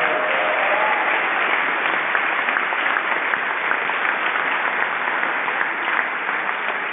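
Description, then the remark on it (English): A boisterous round of applause from a large crowd at an event in an opera house in Hudson, given for Dee Dee Barrett; dense and steady clapping that stays loud for the full seven seconds with no voices rising above it. “Boisterous round of applause because he has the money.”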